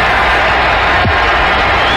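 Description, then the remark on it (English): A broad, steady roar of a large football crowd at Veterans Stadium cheering after a returner holds on to a caught punt, loud and continuous, with a brief thump partway through and no clear speech. “You'll hear some pops, cheers from this crowd at Veterans Stadium.”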